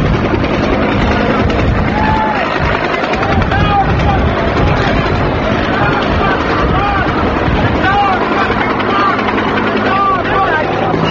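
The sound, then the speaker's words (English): A loud, steady roar of helicopter rotors hovering about 75 feet directly above a crowd on 8th Street at Avenue A fills the scene without a break, kicking up dust, while the large crowd shouts and calls out beneath it. “The propellers, that's the sound of the rotors, the propellers of the helicopter, and they're kicking up an incredible storm of dust.”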